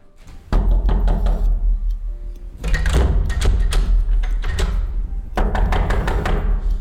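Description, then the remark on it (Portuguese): Heavy, booming bangs pound on a door in three rapid bursts, each a flurry of hard thuds with loud low-end weight and rattling overtones, with brief pauses between bursts. “Abra, ou eu arrombo a porta.”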